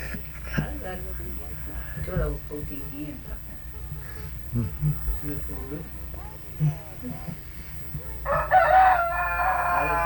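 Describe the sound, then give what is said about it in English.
A rooster crows loudly near the end, a long harmonic call after several seconds of murmuring voices and scattered farmyard clucks in the background. “How many chickens do y'all have?”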